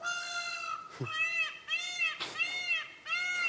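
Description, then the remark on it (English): A showy bird gives harsh, raucous calls: four loud, nasal, wailing cries in quick succession, each rising then falling in pitch, separated by short breaks, with no talking. “Ruckus, to say the least. You'd expect a bird like that to sound different.”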